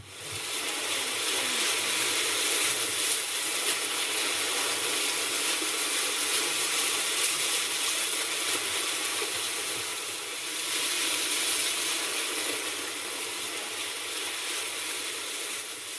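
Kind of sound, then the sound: nature, ocean waves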